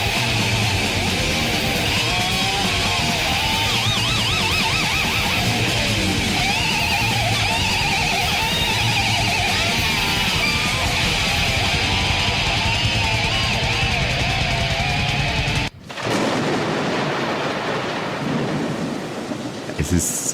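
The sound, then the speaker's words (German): A loud, dense metal track with a wailing, bending guitar solo over pounding drums plays for about fifteen seconds, then cuts off abruptly, leaving only a softer noisy wash afterward. “Jetzt werdet ihr gleich sehen, dass der oder hören, dass der Song ganz abrupt aufhört.”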